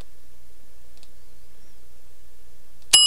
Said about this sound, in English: You get the correct bell for that one.